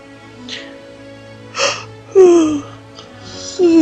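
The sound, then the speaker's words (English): A drawn-out yawn, fairly loud, with breathy inhales and a voiced tone that slides downward, followed by a second, shorter yawning sigh at the end. “I'm sorry, I don't mean to yawn.”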